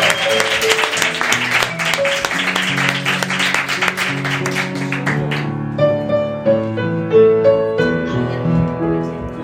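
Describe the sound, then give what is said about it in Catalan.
Audience applause, a dense crackle of many hands clapping, rises over a bright musical jingle for about five seconds, then fades out and leaves the melodic music playing alone, applauding a prize winner on the radio show Ràdio Clandestina. “Fort aplaudiment per ella i per la Neu.”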